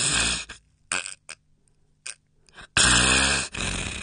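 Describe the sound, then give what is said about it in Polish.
A voice demonstrates snoring with the nose held shut, snoring through the palate and throat, giving harsh, rattling snorts in irregular bursts of varying length, separated by silent pauses, with a long, loud snore toward the end. “I chrapiemy podniebieniem, czyli gardłem, czyli ja teraz demonstruję, zatykam sobie nos i chrapię.”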